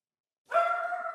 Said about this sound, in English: I don't continue once I've been interrupted by a dog.